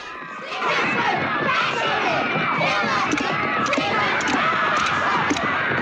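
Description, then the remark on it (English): A crowd of boys chants aggressively around a fire, their young male voices shouting together in a loud, dense, continuous roar, with sharp clicks and thuds of sticks banged on the ground punctuating the din throughout. “The boys all start chanting, their movements aggressive and intense.”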